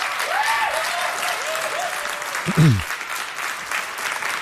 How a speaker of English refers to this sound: Yeah, we don't know why we're clapping, but that was awesome.